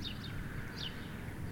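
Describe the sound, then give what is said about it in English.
A bird on the left calls with a few short, high, descending chirps, faint, over a steady low rumble of outdoor background noise. “Oh, there we go, a bird on the left.”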